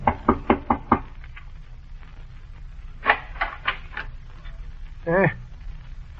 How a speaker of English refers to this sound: The pair traveled many miles through the mountains and woods and came to the little town called Malden, made their way to a cluster of cabins, and at the door of one, the woman knocked.